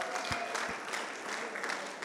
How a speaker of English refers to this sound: She comes along from House Youth with a few of her friends here. Can we give them a round of applause as well?